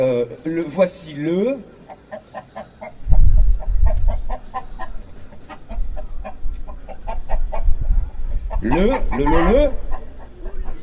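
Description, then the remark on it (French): Chickens cluck in a steady run of short, repeated calls, with two louder squawking bursts near the start and end, over a low rumbling background. “Poulet, voilà poulet.”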